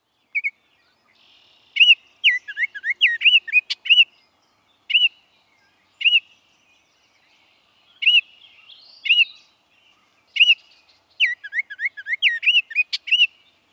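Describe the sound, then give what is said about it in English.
A Baltimore Oriole sings clear, fluty whistled phrases in short bursts separated by pauses, loud, with no voices or other sounds around it. “So that's the Baltimore Oriole.”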